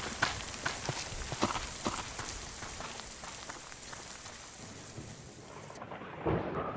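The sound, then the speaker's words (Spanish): Heavy rain pours steadily, a dense hiss peppered with sharp spattering drops, while low thunder rumbles underneath. The downpour eases slightly before swelling again near the end, with no voices. “Pero no escucha la que está cayendo. ¿Cómo vamos a salir ahora?”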